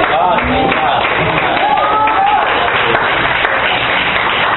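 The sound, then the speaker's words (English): An audience claps in a steady, dense wash of hand claps at constant loudness, with a few voices calling out over the applause. “Oh yes, you clap now, but I don't know that you will clap later.”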